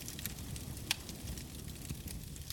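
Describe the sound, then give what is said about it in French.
A wood fire crackles steadily in a fireplace, irregular small pops and snaps over a soft low roar, with one sharper crack standing out. Fairly quiet, no voices. “Le feu crépite dans la cheminée.”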